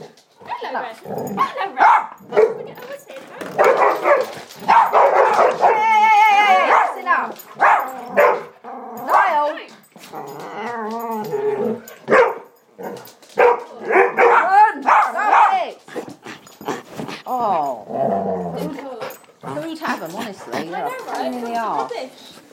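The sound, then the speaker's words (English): Several dogs bark and yip repeatedly in uneven bursts, with a few whimpers mixed in, while a person talks over the commotion. “You're a bloody nuisance, you dogs. Shut up. Shut it.”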